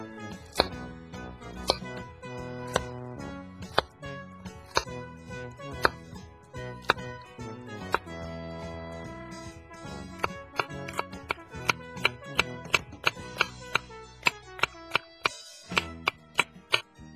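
A knife taps steadily on a cutting board, dicing cucumber into small cubes to add to mashed potatoes. Sparse chops at first quicken into a fast, even dicing rhythm near the end, with soft music playing underneath throughout.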